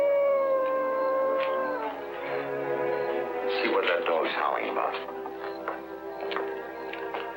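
A dog in the next yard howls in long, wavering, sliding tones that rise and fall for several seconds, fairly loud, with no other clear sounds alongside it.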